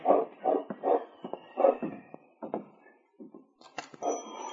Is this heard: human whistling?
no